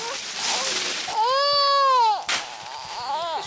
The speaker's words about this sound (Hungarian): Egy kismalac. Igen, egy gyerek és egy kismalac.